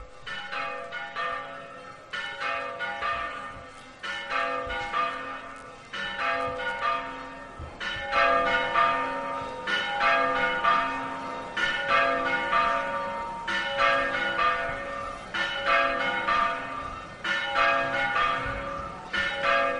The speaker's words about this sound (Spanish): Las campanas de Santo Toribio de Liébana sonando ahora a menos cuarto las 12, menos cuarto las 11 en Canarias.